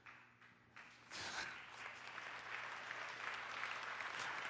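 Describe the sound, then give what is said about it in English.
An audience breaks into applause, a few scattered claps at first swelling after a second into steady, dense clapping that holds at a loud level to the end, with no voices over it. “Why they're clapping.”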